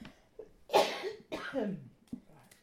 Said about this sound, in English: I just need to cough.